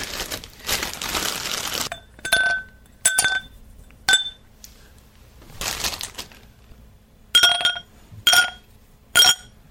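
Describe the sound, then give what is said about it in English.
Whiskey stones clinking against a glass during a Glenlivet scotch tasting: a few bright, ringing taps with sharp high tones, mixed with rustly crinkling noise between them, moderately loud with no talking. “So, what I'm going to do is grab my whiskey stones.”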